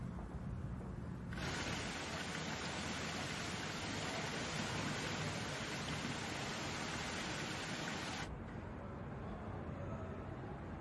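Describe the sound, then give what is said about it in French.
Steady rushing water pours down a gently sloping cascade surrounding a building, with basins on its other side, a dense, continuous hiss that swells brighter for several seconds before settling back into a softer, low flowing murmur. No voices. “Il est entouré d'eau, des bassins d'un côté, une cascade en pente douce de l'autre.”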